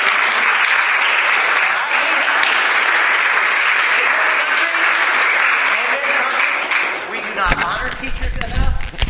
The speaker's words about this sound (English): And before I go on, are there any public school teachers in the crowd? Would you raise your hand, either current or former? Can we get a round of applause for her?